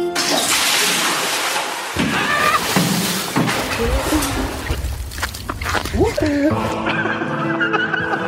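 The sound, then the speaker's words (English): A bucket of ice water is dumped on someone for the ALS Ice Bucket Challenge, with a loud sloshing splash, followed by breathless gasps, shrieks and laughter from people. “and I've been nominated for the ALS Ice Bucket Challenge.”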